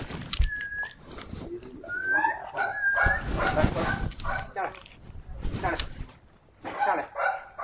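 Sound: puppy yipping and whimpering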